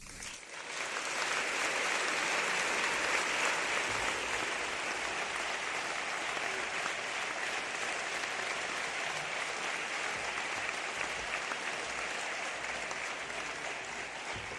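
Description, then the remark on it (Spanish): Sustained audience applause, a dense crackle of many hands clapping at once, rising quickly and holding steady and fairly loud for the whole stretch without any voices. “Aplaudan, por favor.”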